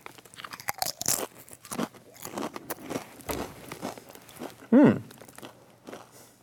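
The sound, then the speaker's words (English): Loud crunching of Tangy Tamarind Doritos tortilla chips being chewed, a rapid irregular series of crisp crunches lasting several seconds, with a brief hummed murmur near the end and no talking. “Apologize for the crunching.”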